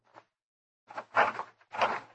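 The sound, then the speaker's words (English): A door is opened: a brief latch click, then a few rattling, scraping bursts as it swings, with no voices. “Open the door.”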